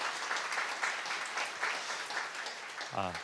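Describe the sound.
An audience at an early-morning church service applauds in encouragement of a pastor and the S Gangnam community group, a steady, dense wash of clapping that holds for about three seconds, and a voice briefly starts speaking over it at the very end.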